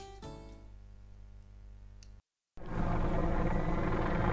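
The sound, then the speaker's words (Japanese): A helicopter drones steadily with a low, chopping hum, then the sound cuts out briefly before a louder, rougher rush of outdoor noise takes over. “お前ヘリコプターだね。”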